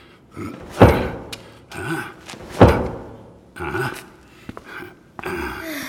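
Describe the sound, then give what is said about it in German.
Two loud, hollow knocks on a wooden barrel about two seconds apart, knocked to hear how full it is; the barrel is nearly full. Softer thumps and rustling shuffling around them. “Kann ich auch mal klopfen?”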